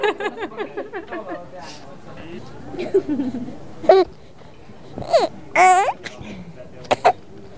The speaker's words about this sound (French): Bon, il a parlé un petit peu. Il a parlé un petit peu. On ne sait pas dans quelle langue il a parlé, mais le langage bébé, il est un peu partout le même, non?